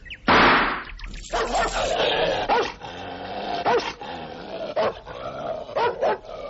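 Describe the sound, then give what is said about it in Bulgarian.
A rabid dog barks and growls, opening with a loud burst and then snarling continuously between sharp, irregularly spaced barks. No one speaks. “Млакни най-после, проклети песо!”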